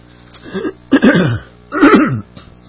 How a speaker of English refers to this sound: Excuse me for my clearing my throat. Something's in there.